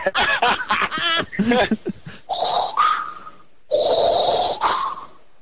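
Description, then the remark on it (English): A voice imitates Darth Vader's heavy mechanical respirator breathing, two long rasping hissy breaths, an inhale then an exhale, loud, after a brief burst of vocalizing. “But the breathing was fantastic.”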